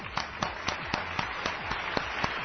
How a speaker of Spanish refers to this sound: Un aplauso para él, sí señor.